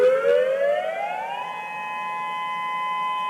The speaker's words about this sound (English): That's Seward's tsunami warning siren. Seward was the first tsunami-ready community in the state of Alaska.